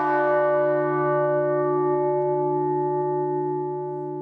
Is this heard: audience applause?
no